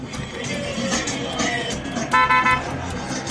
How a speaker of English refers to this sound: Everybody in Peru honks all the time. They honk when they're happy, they honk when they'd like to get by you, they honk when they're angry. Just anytime you want.